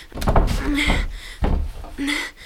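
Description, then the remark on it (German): Someone rattles and tugs at the locked door of a hut: a couple of loud thumps and clunks with creaking, grinding handle noises, the door refusing to give. “Mist, natürlich verschlossen.”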